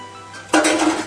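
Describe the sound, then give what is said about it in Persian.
A metal spoon scoops tomato paste from a glass jar into a mixture, an abrupt scrape and clink against the container that lasts about half a second before fading, with no talking. “بازش کردم، زهر رو به گوجه ور میدارم، میزم تو موادم.”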